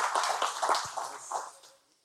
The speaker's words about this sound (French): Une bonne main d'applaudissement pour un Dieu qui est vivant, qui est là, qui voit, qui est présent.